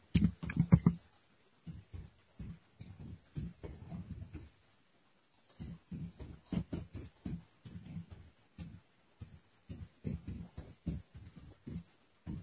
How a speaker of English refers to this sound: Okay, you probably heard me typing, so it's not totally dead air.